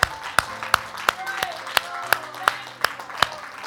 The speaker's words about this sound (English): Hallelujah. Can we just praise Him with a hand clap right now? Hallelujah. Hallelujah.